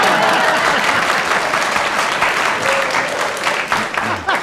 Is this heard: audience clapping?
yes